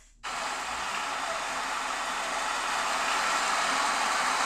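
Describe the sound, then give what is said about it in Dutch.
Heavy rain pours down in Bangkok in a dense, unbroken hiss that begins abruptly and holds steady and loud throughout, with no voices or distinct drops standing out. “Hier is regen Bangkok.”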